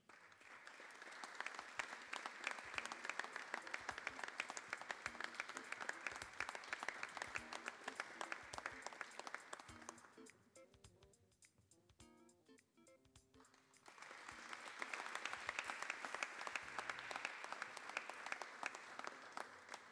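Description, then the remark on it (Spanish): An audience at a prize-giving ceremony applauds the prize winners steadily for about ten seconds, the clapping dips quieter with a few scattered claps, then a second full round of applause swells up and continues to the end. “Y el aplauso también para el primer premio,”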